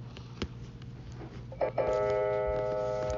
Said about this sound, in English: As we jump in bed, we hear the clock chime.